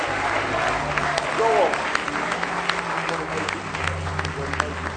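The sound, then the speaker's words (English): An audience gives a clap of praise at a morning church service, steady, dense, continuous applause, many hands overlapping at a fairly even loudness, with a brief raised voice or shout cutting through partway in. “Clap of praise if you love him this morning.”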